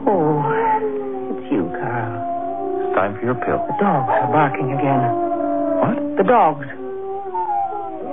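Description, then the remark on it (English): Several dogs howl and yelp together in a loud, continuous chorus of wavering, sliding cries, with short sharp barks breaking in now and then, unbroken for the whole stretch. “I asked you about the dogs. They're barking.”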